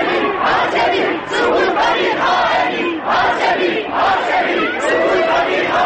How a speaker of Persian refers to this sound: جمعیت اوج می‌گیرد و یک صدا فریاد می‌زند.